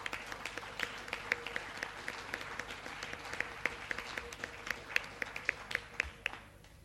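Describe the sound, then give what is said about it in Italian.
An audience applauds steadily for several seconds, many hands clapping in a dense, crackling wash with a few sharper individual claps standing out, fading slightly at the end. The applause signals agreement that the Aurelio Nicolodi prize be awarded. “La proposta era che con un applauso saremmo stati tutti d'accordo”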